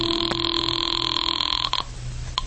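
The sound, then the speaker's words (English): A telephone call placed from a house phone rings over the line, one steady buzzing tone that holds for most of a second and a half, then cuts off abruptly, leaving a faint hiss and a brief click. “Well, I couldn't lose much more, so I went back into the house to use the phone.”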